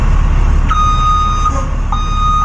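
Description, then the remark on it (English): A giant utility truck's reverse alarm beeps steadily at a fixed pitch over a loud, rumbling diesel engine as it backs into place while linemen work to restore power in Green Country; no voices. “A giant utility truck backs into place as linemen work to restore power in Green Country.”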